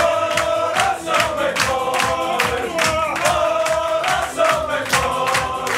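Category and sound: crowd, football fans cheering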